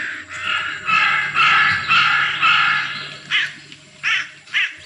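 Crows caw loudly and harshly, first in a long run of overlapping calls, then in three shorter separate caws, over a low steady background hum.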